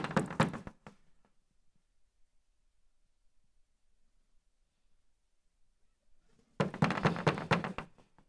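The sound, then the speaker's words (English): Knocking on the front door of a house with a Christmas wreath comes in two fairly loud bursts of rapid raps, separated by several seconds of silence while no one answers. “Should I knock?”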